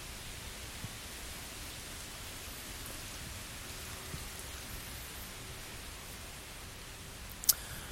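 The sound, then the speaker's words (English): Heavy rain pours down in the city of Sydney, Australia, at a greenhouse, in a steady, dense hiss that fills the whole recording without letup, with one brief sharp knock near the end and no voices. “It's fucking pissing rain.”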